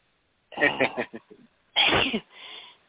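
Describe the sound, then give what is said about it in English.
A single loud sneeze bursts out after a brief stretch of voice, followed by a softer breathy trailing sound. “There I go sneezing again.”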